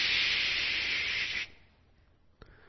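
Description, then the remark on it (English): A voice imitates an aerosol can spraying: one steady, fairly loud hiss lasting about a second and a half, then a sudden stop, near-silence, and a faint click. “She pulled out an aerosol spray can, and she walked over to the lifeless bunny, and she went, tsh.”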